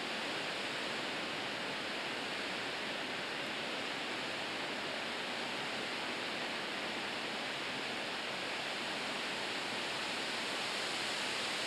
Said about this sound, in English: We have been waiting for this rain for a long time. It's good rain.